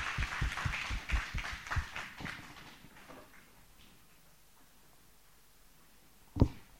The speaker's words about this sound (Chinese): 我们再次掌声欢迎他好不好？